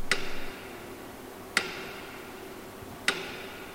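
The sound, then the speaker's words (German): A metronome ticks steadily in a church, beside contemplative images on a screen, while a few people meditate: three sharp clicks spaced about one and a half seconds apart, each ringing briefly against a quiet, slightly hissy background with no talking. “Auf einer Leinwand sieht man besinnliche Bilder und neben diesen Bildern tickt das Metronom.”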